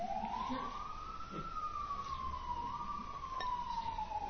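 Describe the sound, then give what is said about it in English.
A fire engine siren in New York wails in one long tone that rises and then slowly drifts down as it passes, over a low rumble of city traffic. “There's the sound of the city, isn't it? The sound of the world. What does that mean? Just nothing specific, just fire engine or something.”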